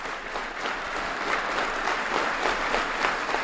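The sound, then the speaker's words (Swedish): A 900-strong audience, standing, gives a standing ovation after the first public performance of Carl Axel Dominique's music to Harry Martinson's texts: thick, steady applause with many hands clapping at once, a dense crackling wash that stays loud and even throughout, with no voices standing out. “Hela den 900-hövdade publiken ställde sig upp. Det blev stående ovationer.”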